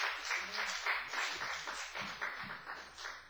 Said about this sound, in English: Let's give this man of God a wonderful hand clap.